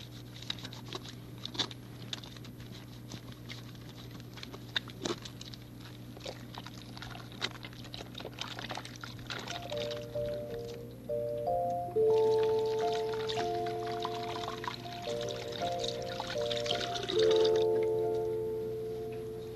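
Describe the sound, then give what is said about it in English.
Water runs and splashes steadily, with wet squishing and patting as hands are rubbed with soap under the stream, making bubbles; midway, a simple melodic tune starts playing alongside it. “Water and soap and rubbing.”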